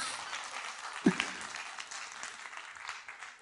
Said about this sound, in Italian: E se fate l'applauso, fatelo più forte, però è come